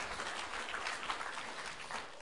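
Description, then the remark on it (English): An audience claps for themselves after taking part in a song, a dense, continuous patter of many hands at an even loudness with no voices breaking through. “Come on, you can give yourselves a better clap than that. Give yourselves a clap.”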